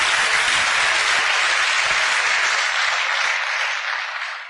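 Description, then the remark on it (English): Sustained applause from a large audience, a dense wash of clapping that stays loud throughout and eases slightly toward the end, with no voices over it. “By applause, you're taking my time away, you know that?”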